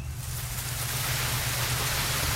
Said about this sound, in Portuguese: Ouça o som das águas. Do vento. Das matas. Da chuva.